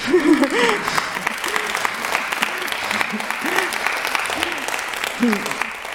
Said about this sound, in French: oui, c'est, les applaudissements sont nécessaires. Là.